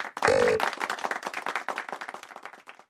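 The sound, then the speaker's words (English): Hands clap in a quick, steady rhythm, a continuous run of sharp claps lasting throughout, opening with a brief loud tonal squeal over the first claps. “Clappity clap clap clappity clappity clap. Clap clap clap clap.”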